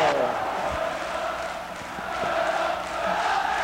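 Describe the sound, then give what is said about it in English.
A huge baseball stadium crowd roars and cheers wildly in a steady, unbroken wall of sound, with scattered shouts rising out of the din throughout, after a Cubs home run over the center field wall wins the game 4-3. “The crowd is going crazy. It's pandemonium.”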